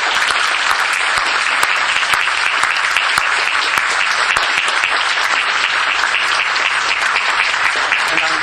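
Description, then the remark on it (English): Sustained audience applause at a graduation, for the graduating class and their parents, relatives and friends, a dense, steady wash of many hands clapping at an even loudness for several seconds, with no voices standing out above it. “So to the entire graduating class and, of course, to the parents and relatives and friends and other support systems who made all of this possible, let's give a rounding round of applause.”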